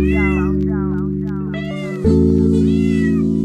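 A cat meows repeatedly, a string of short rising-and-falling calls, heard over a loud, steady musical drone that grows fuller and louder about halfway through.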